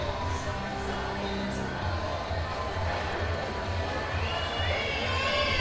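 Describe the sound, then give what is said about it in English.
A dense crowd shouts and cheers continuously, calling out "three", a loud, steady roar of many overlapping voices with no pauses, swelling slightly toward the end. “Now the crowd is calling out, three.”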